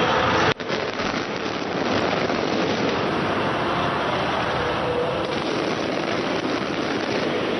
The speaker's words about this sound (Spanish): Así sonaban los fuegos artificiales en la capital de España en torno a las 11 de la noche, cuando terminaban los festejos en el Santiago Bernabéu.